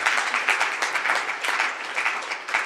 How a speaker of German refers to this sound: Jetzt dürfen wir noch mal kurz klatschen, damit es fair ist, bevor ich die anderen nach vorne hole.